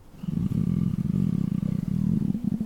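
A hungry stomach growls loudly in the still night: one sustained, low rumbling gurgle with a rapid fluttering texture, lasting a couple of seconds with no talking over it.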